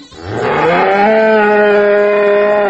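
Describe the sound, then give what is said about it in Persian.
A single long cow moo, loud, rising at the start then holding a steady, droning tone for about two seconds with no one speaking. “جان گاو وارد میکنی؟”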